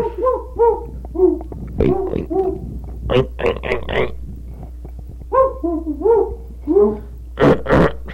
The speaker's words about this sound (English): There's a pig in here.